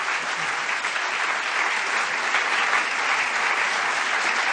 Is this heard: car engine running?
no